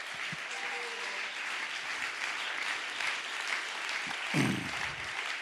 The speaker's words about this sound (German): Herzlich willkommen, Beat Schweizer. Du kommst jetzt auf die Bühne. Gebt dem Beat einen herzlichen Applaus.